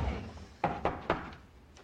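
knocking on a door

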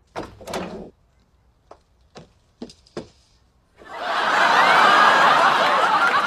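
door opening

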